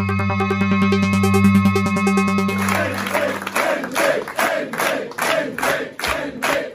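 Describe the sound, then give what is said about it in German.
A crowd cheers and claps loudly for Minister-President Hendrik Wüst at the CDU election party on Sunday, after the state (Landtag) election, with a sustained tonal hum under the first few seconds before rhythmic bursts of applause and shouting take over. “Das war der Jubel für Ministerpräsident Hendrik Wüst auf der CDU-Wahlparty am Sonntag.”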